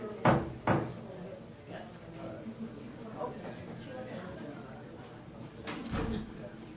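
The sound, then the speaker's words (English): A door closes with two quick thuds near the start, followed by another softer bump later, while indistinct voices murmur in the background during a Planning Commission meeting. “you want to close that door? Yep. Hey, Jeff, shut the door.”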